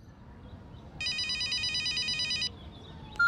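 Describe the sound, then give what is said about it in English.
A telephone bell rings for an incoming call in one continuous burst of rapid trilling lasting about a second and a half, clear, followed by a brief click as if the receiver is picked up. “Read and listen to the phone conversation.”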